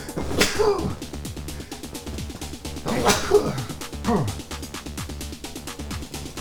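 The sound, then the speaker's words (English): Two sharp, explosive sneezes burst out about two and a half seconds apart, each a short hissing blast over a steady, busy backdrop of rhythmic music-like sound. “I might sneeze. I'm thinking about sneeze. Yep, here it comes.”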